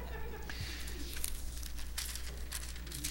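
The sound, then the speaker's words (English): Pages of an unmarked Bible are flipped rapidly, one after another, to Romans chapter 3, making a string of soft papery rustles and swishes over a low steady hum. “See how fast I'm turning my pages, even though I don't have it marked?”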